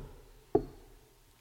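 A single dull knock, like a knuckle rapping once on a door, lands sharply in an otherwise quiet stretch and fades quickly with no voices around it.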